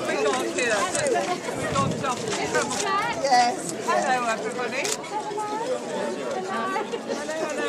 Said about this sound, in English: Okay, so the crowds have gathered still in their masses. There's probably around 500 or so gathered outside the Whitstable lifeboat station.